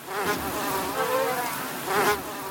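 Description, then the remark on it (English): A steady buzzing of many mosquitoes swarming in an Australian lab, wings whining at once, with pitch wavering and swelling in brief surges. No one speaks. “This method starts in an Australian lab swarming with mosquitoes.”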